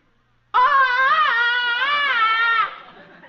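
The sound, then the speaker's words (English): A loud Tarzan jungle-man movie yell: one sustained, warbling, yodel-like cry whose pitch swings up and down for about two seconds before cutting off, with no other sounds. “I'd like a sample of that famous movie yell of yours.”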